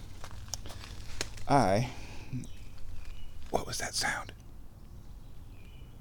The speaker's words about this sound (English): Oh, it's birds in the water over there under the tree roots. Hi, birdies. So nice.